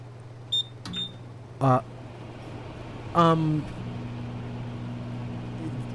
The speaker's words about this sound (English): That's a microwave. I don't think that's quite good.